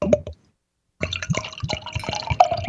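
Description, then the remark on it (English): Beer, a 5% Crooked Stave Cassis Petite Sour from Denver, Colorado, being poured into a glass, a steady splashing stream with a faint rising ring as it fills, preceded by a brief clink and a short pause. No talking. “So when I poured it, I didn't get any carbonation.”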